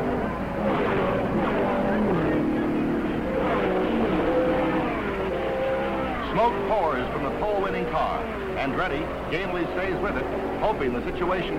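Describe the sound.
Race cars roar past on a track in a steady, loud engine drone after the green flag, with a few rising and falling whines as individual cars sweep by, as Jimmy Clark passes Mario Andretti, whose car has problems; a voice talks over the noise.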